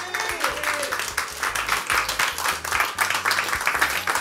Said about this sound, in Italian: Dai, su, facciamo un altro applauso.